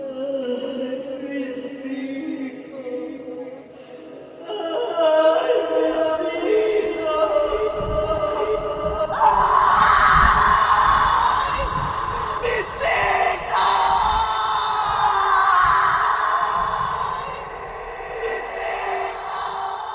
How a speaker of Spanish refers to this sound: Y así, al disiparse la tormenta, en aquella noche iluminada por un tímido firmamento que observaba al hombre, se escuchó hasta el pueblo el grito que ha producido terror por siglos y generaciones.